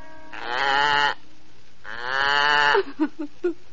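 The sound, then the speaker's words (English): A little goat grazing on soft green grass bleats twice, each call long, loud and wavering, followed by a few short, clipped bleats. No one speaks. “As our story begins, poor, unhappy Two Eyes' cruel mother and envious sisters have sent her out, hungry and alone, to tend their little goat as it grazes on the soft green grass.”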